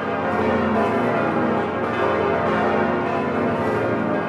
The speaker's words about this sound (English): We now know that the organ was spared in last month's massive fire at Notre Dame. Also spared, the cathedral's 10 bells, which ring to mark momentous events.